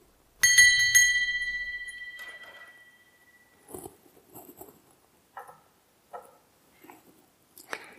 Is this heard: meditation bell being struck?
yes